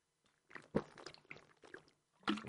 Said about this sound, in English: Hold on, let me grab a sip of Mountain Dew.